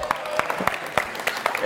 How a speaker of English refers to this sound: Very good. Give her applause.